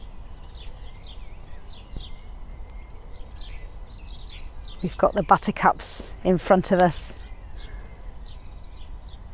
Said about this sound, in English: Great tits and some sparrows in the trees over there.